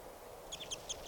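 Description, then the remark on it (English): Birds calling from the top of the approach tree, some of a group of four being captured: a quick run of high, thin chirps in the second half, several short notes in close succession over a soft, steady background hiss, with no talking. “Trying to record the birds.”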